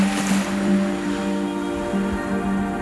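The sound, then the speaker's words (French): Steady ocean wash with sloshing water around the Kon-Tiki raft set adrift on the ocean, overlaid by a low, sustained hum with harmonic tones, like a vessel's drone, continuous and fairly loud throughout. “Voilà donc le Kon-Tiki lâché dans l'océan avec les éléments, l'air et l'eau pour une carburant.”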